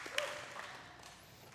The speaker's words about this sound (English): Come on, let's clap or not clap. Let's make up our mind. Are we going to? Okay, let's clap. Good. All right. When in doubt, clap.